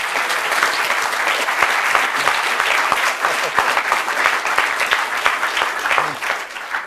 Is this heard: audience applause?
yes